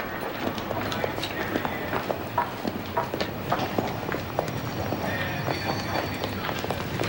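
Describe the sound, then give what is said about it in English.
Quick, hurried footsteps of someone hurrying at a train station patter in a steady running rhythm over a dense, busy background hum with faint murmuring voices, continuing for several seconds. “She watches Richard hurry toward her.”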